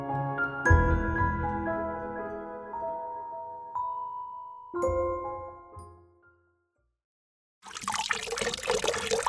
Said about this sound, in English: Water started to flow, finally. It was the color of a weak mug of Earl Grey tea.